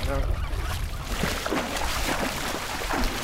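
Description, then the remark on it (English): Water splashes repeatedly in short, irregular bursts on a river as floating goose decoys are set out from a grassed, camouflaged boat, over a steady, noisy outdoor background, with what may be faint goose honks mixed in. “When you hear the water splashes, we're setting out the”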